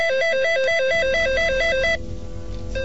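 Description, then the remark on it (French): A telephone rings with a rapid, warbling electronic trill that alternates between two tones for about two seconds, then cuts off, leaving faint background noise. “et j'attends que mon putain de téléphone y sorte.”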